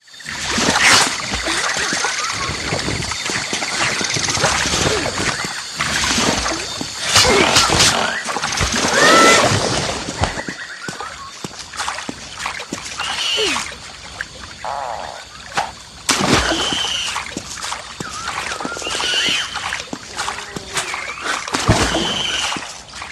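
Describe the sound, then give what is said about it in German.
A dense, music-free swamp ambience from the second section of a video game: water sloshes and splashes as the player character wades through it and swings on vines through an area of snapping enemies, with animal calls scattered across a busy, continuous backdrop. No one speaks. “in der Sumpflandschaft, dem zweiten Spielabschnitt, unterwegs ist und sich an Lianen schwingt und in Wasser watend durch ein Gebiet voller nach ihm schnappender Feinde wagt.”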